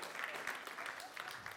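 A crowd claps in a dense, steady round of applause, bright and crackly with no clear rhythm, holding at an even moderate level for a couple of seconds.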